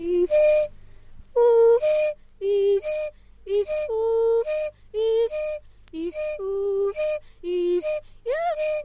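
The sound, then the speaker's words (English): From a recording by Simha Arom, a singer alternates a single-pitched one-note whistle with short sung notes in quick, regular bursts separated by brief pauses, repeating the pattern roughly a dozen times, clear. “If we go back to something we heard very early on from Simha Arom's recording, this is the singer with a one-note whistle and singing along.”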